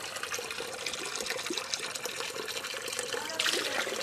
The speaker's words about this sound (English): Here in the center of Borjomi, there's a spring where the water comes out of a little pipe, and anyone can fill up a bottle of water.